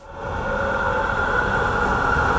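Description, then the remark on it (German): A subway train on line 5 rumbles along Eckenheimer Landstraße near the city centre in Frankfurt, its steady low roar and whining hum building quickly and holding loud and continuous. “Eine U-Bahn fährt nahe der Innenstadt durch die Eckenheimer Landstraße.”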